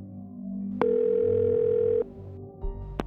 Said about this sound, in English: So, the Levys picked up the phone and dialed.